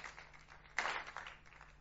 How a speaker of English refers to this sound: Wasn't he great? You can clap him if you like. Wasn't he amazing? Wasn't the worship good? You can clap him if you like. Wasn't the kids' work good? Clap him if you like.